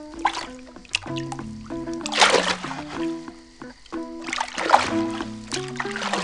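Water splashes in a few irregular bursts, loudest around the middle and again near the end, over steady background music with sustained tones.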